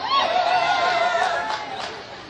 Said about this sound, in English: Did I hear someone go me, me, me, me?